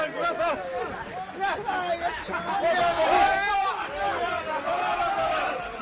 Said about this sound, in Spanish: Estos que escuchan son los gritos de los seguidores como si les hubiera tocado la lotería.